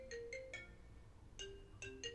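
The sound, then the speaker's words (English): A phone ringtone plays a short melodic pattern: three quick tones, a pause, then another three-note phrase in a lower register, bright and electronic with no talking. “Okay, my phone. Okay, still recording. I wonder if everybody could hear that.”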